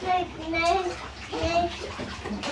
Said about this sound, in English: You've got loads of water in the bath.